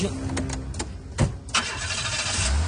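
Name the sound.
car engine starting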